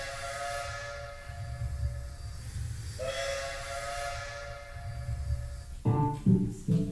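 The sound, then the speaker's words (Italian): A train rumbles steadily along the rails with a low, continuous roar and rattling, while long whistle tones sound over it and a burst of sharp clanking comes near the end. “Stare in treno tutto il giorno, per l'Italia andare attorno.”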